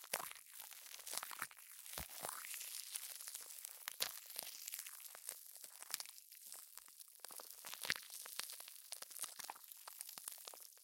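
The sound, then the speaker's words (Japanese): Carbonated foam fizzing and bubbling up, a steady, faint, bright crackling hiss packed with tiny irregular pops and snaps throughout, with no voices. “完全にモコモコ泡が立ってきました。”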